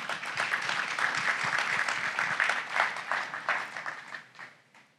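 A crowd applauds steadily to welcome a company CEO back to the stage as the next presenter, a dense wash of many hands clapping at once, holding strong for several seconds before thinning out and fading toward the end.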